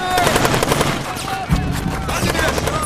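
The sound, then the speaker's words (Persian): A dense volley of gunfire from a group shooting on command rattles continuously, many rapid overlapping shots blending into a loud, sustained burst with a heavier thump midway, and no clear talking over it. “آماده باشین. حالا شلیک کنید.”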